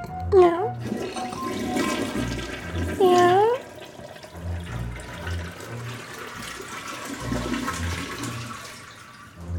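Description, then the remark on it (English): A toilet flushes with a loud, sustained rush of swirling water, interrupted early on by two brief wavering cries, while a steady rhythmic background beat pulses underneath. “Cat drinking toilet water, flushing toilet, / / funny cat toilet, / flushing.”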